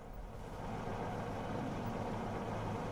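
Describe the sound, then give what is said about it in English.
A Rolls-Royce car engine, just started in a garage, idles steadily with a low, continuous rumble, even throughout with no other sounds. “Danny sits in a car and turns on the engine”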